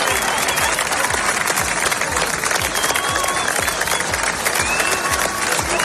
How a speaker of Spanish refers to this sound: En Plasencia y Hervás, decenas de vecinos han despedido con aplausos y mucha emoción a los equipos de extinción y a los voluntarios que han combatido las llamas en la región.